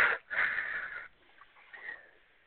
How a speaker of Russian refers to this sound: А что ты так тяжело дышишь? Я курю.